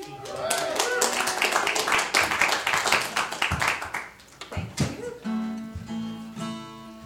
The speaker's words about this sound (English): You obviously are attentive crowd clappers and cheerers. Didn't even have to cue them.